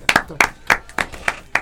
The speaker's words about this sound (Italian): Prima della canzone un applauso per la descrizione